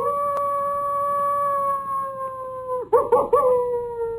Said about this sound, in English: take us out with a little bit of coyote sound, won't you?